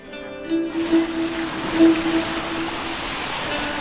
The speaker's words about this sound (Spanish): El paseo hasta el lago Kapchigai es una buena forma de despedir el día. El agua movediza hace cosquillas en los pies